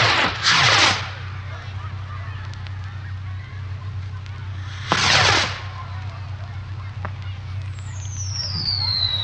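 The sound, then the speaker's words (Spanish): Two loud firework bursts from a fireworks castle being lit, several seconds apart, each trailing off in a brief crackle, over a steady low hum, with a thin high whistle rising near the end. “Él hace unos castillos bonitos y al encenderlos truenan así.”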